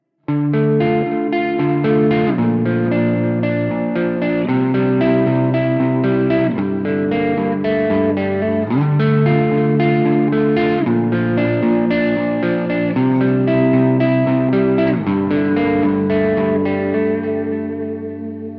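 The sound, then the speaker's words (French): Sustained synth-like chords, washed in reverb and delay effects added to accentuate the stereo spatialization, shift every couple of seconds, each change trailing into echoing tails. Steady and loud throughout, with no voices. “Et maintenant, je rajoute un effet reverb et délai pour accentuer la spatialisation.”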